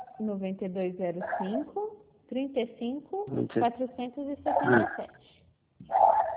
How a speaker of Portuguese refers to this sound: A cachorra está latindo aqui, assim, né?